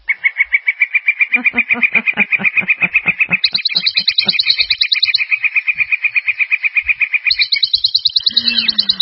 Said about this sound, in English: I flew those birds in just for all of you.